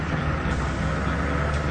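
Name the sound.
city bus driving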